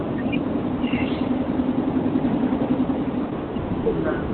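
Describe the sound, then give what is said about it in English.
Steady low engine rumble and road noise fill the line, a constant droning hum with a faint tonal whine, from a participant driving a car while on a meeting call, heard through a phone connection. “A lot of noise. Yeah. Are you driving?”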